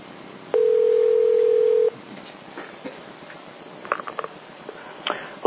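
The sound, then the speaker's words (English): A telephone call being placed by Lug Radio: a loud, steady telephone tone holds for about a second and a half, then cuts off, leaving a quiet line with scattered faint clicks and rustles. “So who's on the phone?”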